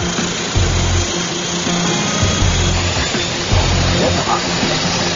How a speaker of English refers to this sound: We're just waiting for it to fire. It's just spinning on the air right now. The starter has the prop spinning, but the engine still hasn't fired. Temperature going up.